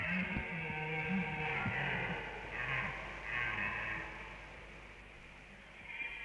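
Several deep, short guttural bellows from a bull moose in rut in a forest at evening, calling rivals to fight, coming in a few quick bursts over a steady background hiss, with no talking.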